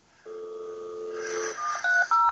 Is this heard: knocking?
no